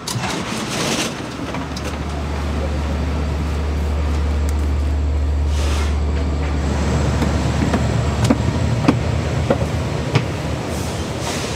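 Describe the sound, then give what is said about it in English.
Steady low rumble of a two-story commuter train with high headrests and a bathroom in motion, heard from inside the car after a transfer at Babylon, with a constant hum, faint rattles and occasional clicks over the tracks, no voices. “We just got onto a fancier train with higher head rests and two stories and a bathroom.”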